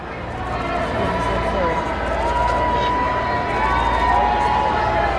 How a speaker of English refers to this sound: As King Charles pulled up to the church, he was met with a wall of cheers, but also booing and chanting.